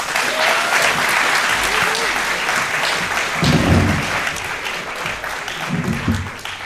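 Warm applause from an audience, a steady wash of many hands clapping that holds fairly loud throughout, with a few low murmurs rising underneath toward the end.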